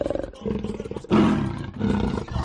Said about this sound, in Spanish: Y tanto, aquel pueblecito, Huelma, en el que los vecinos estaban aterrorizados por los rugidos de la pantera en mitad de la noche.